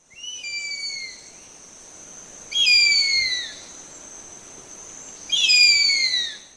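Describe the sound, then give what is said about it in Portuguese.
A harpy eagle, one of the world's largest birds of prey, found in Brazil mainly in the Amazon, gives three long, thin, high-pitched wailing whistles, each sliding slightly downward, spaced a couple of seconds apart and heard clearly on their own over faint background hiss. “Árpia.”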